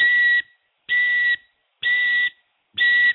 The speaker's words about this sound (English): And this morning, lo and behold, we start hearing some clinking and banging and things outside the house here on the corner. And, you wake up, you think, is that my alarm going off? And nope, it's just a truck backing up.